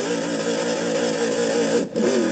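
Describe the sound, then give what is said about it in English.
A car engine revs loudly and steadily for a revving start on a race track, its pitch wavering, then briefly drops out near the end as it nearly stalls before catching again. “So let's give it a revving start, see what American dreams are made of, shall we?”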